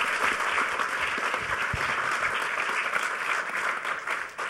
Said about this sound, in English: Yep. Awesome. Give a big round of applause to the panelists.